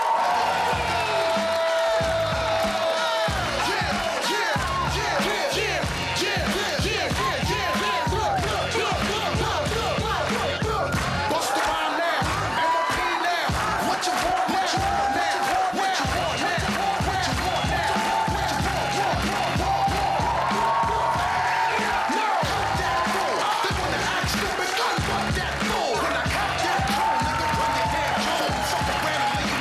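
A large crowd at the Comedy Club show on TNT applauds and cheers steadily throughout as comedian Pavel Volya is welcomed on stage, dense clapping mixed with whoops and shouts, loud and sustained without a break for the whole half minute.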